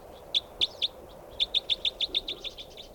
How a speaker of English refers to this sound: There's a bird right above me here.